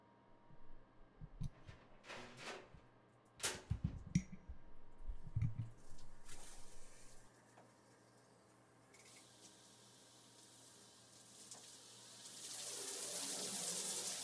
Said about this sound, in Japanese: にゅるにゅるにゅるにゅる。あわあわ流すね。